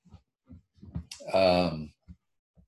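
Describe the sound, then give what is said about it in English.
Sparse, sharp clicks of computer keyboard typing as someone types out letters, a handful of separate keystrokes spaced unevenly, with a loud sustained voice sound breaking in midway before the tapping resumes. “I think you guys probably heard me typing away over here as I was typing out some letters to colleagues and students and other things during the break.”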